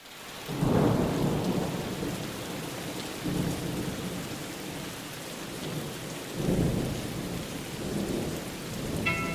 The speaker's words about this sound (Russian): Вот наступили такие летние дожди, каких много-много лет не видали в горах. Целых 3 месяца долину окутывали тучи и наполненный влагой туман. Постоянный неумолимый дождь прерывался ливнем с грозой, и по окончании одной грозы налетала другая.